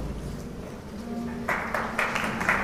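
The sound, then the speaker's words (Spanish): After a low, steady hum, audience applause at an orchestral concert breaks in abruptly, a dense, crackling patter of many hands clapping at moderate loudness that continues to the end. It is the third concert of a 30th-anniversary spring-summer 2024 season, and the applause is for the concertmaster before tuning. “No, no, el aplauso no es para mí”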